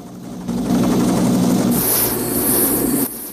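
A helicopter gunship roars with a steady low engine drone and rushing rotor wash as it flies over and descends to a river, rippling the water's surface; the sound grows harsher and hissier midway, then drops off abruptly near the end.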